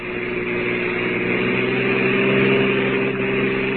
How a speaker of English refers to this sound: It's about an hour later now, and a car with three very silent people in it has just reached the outskirts of the town.